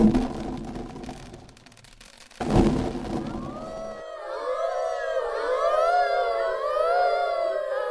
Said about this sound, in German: Im Wald, der neben der Burg lag, heulten die Wölfe.